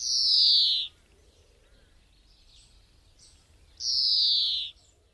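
Birds at a winter roost give two loud, clear calls, each a high descending whistle lasting under a second, spaced a few seconds apart, with fainter chirps in between against a quiet outdoor background.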